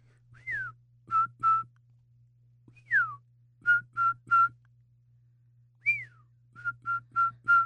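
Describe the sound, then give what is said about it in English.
A person whistles an imitation of a bird's call, as a bird would do sitting on a wire, in three repeated phrases: a falling slurred note followed by a run of short, even chirps, two or three at a time, over a low steady hum. “So a bird would do something like sit on the wire and do...”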